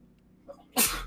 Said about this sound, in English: Bless you.